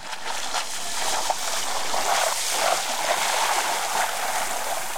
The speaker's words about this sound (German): heute ist ein etwas mehr Wind, wie man vielleicht merkt. Ich stehe hier direkt am Strand.